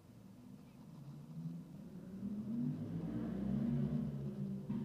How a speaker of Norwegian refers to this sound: Dere hørte lyden av denne bilen der ute. Jeg sitter og hører biler som kjører forbi. Det er irriterende, men ja.